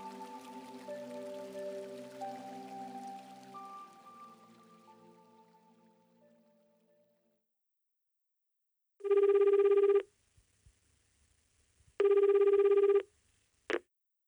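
A telephone rings twice in loud, steady bursts about two seconds apart at the Iyashi massage shop Yumenokizaka, followed by a sharp click as if picked up, after a soft, fading chime-like tone and a short silence.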